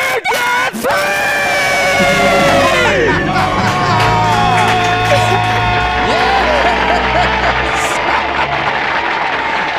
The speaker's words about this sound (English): That may be the best debt-free scream in the lobby. That might be one of the best. The scream itself. Now, the story was great. The scream itself was world class. That was good. Very well done.